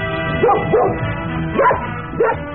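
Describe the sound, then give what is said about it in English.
Tippy the Wonder Dog barks four times in quick, uneven bursts, fairly loud, each bark rising and falling in pitch over a steady low background hum. “Marshies, the great new cereal that gets soggy even without milk or cream, brings you another exciting story of adventure starring Tippy the Wonder Dog.”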